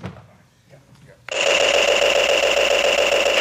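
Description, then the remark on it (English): A quiet voice speaks briefly, then a loud, sustained toy-like machine gun sound cuts in abruptly as a fake Tony shoots a machine gun at Tony, a rapid buzzing rattle of rhythmic bursts with a shrill electronic tone, continuing to the end. “The second fake Tony tried shooting a machine gun at him.”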